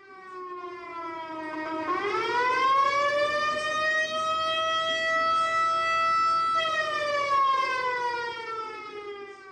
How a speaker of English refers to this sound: Burroughs recorded a 1960s siren that the Rogers PD donated to the museum.